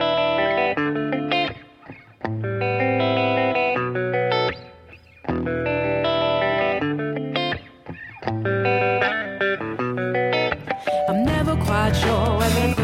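An energetic music track of loud, effects-heavy chords played in punchy blocks with brief breaks, building into a brighter, noisier wash at the end. No voices are heard.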